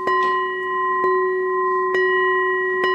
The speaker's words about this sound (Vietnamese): Đánh chuông á thì beng beng beng, hai tiếng nhặt một tiếng khoan.